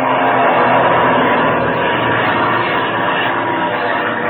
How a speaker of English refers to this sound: Look at that plane at the bottom of its dive, and now it's zooming up. There's something mighty queer about this.